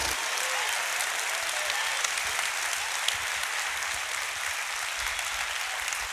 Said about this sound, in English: By a round of applause and a shout of praise, if God has done that for you, can you say thank you, Jesus?